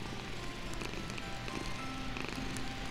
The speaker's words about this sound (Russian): Серый пушистый кот сел рядом и замурлыкал какую-то песню.